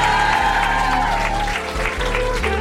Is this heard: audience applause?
yes